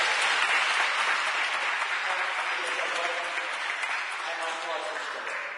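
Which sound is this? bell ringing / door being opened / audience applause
audience applause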